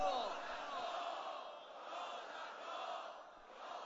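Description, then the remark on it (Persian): A large crowd shouts together in a sustained, roaring religious chant, calling out "Ya Zahra" three times, many voices blending into a dense wall of sound with rising and falling swells over several seconds. “با همه وجودت سه مرتبه فریاد بزن یا زهرا.”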